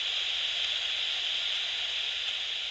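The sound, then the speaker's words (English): Steady, unbroken hiss of radio static blasting at full volume from handheld walkie-talkie-like devices held by a group of about 50 people, bright and harsh with no voices or pauses throughout. “They were blasting out static at full volume, and everyone was staring up at the sky.”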